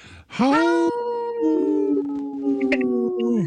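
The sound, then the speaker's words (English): A human voice imitates a wolf howl: one loud, sustained tone that swoops up at the start, then holds and wavers slightly for about three seconds before trailing off. “You howled and laughed. And I don't remember wolves laughing, but that was a good one.”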